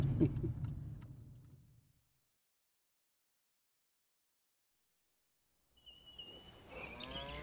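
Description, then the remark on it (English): Cattle grazing in a field moo twice, a deep drawn-out low at the start and another bellow after a few seconds of silence, both fairly loud with no one talking. “A field full of happy, healthy cattle, all grazing peacefully, bright-eyed and glossy-coated.”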